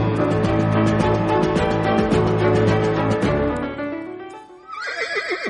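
A horse neighs in a long, loud whinny with shaky, wavering pitch, fading out before a second higher, quavering whinny begins. No one speaks.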